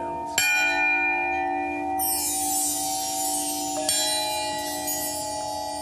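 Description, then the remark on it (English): Two struck Burmese bells hanging from the ceiling ring out a few seconds apart, each leaving a long, shimmering metallic resonance with steady overtones that hum on and blend together, with no voices present. “These are Burmese bells.”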